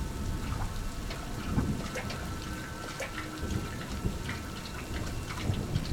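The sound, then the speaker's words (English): Steady rain pours down on a street at sunrise with a constant hiss and scattered patters, while low thunder rumbles and swells underneath throughout. No voices are heard. “The rain, the rising sun.”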